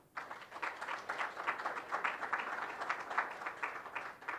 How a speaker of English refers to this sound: Please give a round of applause to our speakers.